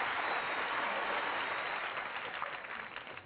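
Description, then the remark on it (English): An audience claps in a dense, steady wash of applause that holds for a few seconds and then begins to thin and taper toward the end. There is no talking. “If a career in professional wrestling doesn't work out for him, he says he plans to work with autistic children which I think in turn does deserve a round of applause.”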